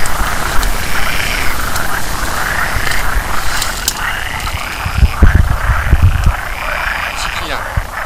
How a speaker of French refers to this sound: Alors là, on est dans la maison du crapaud accoucheur.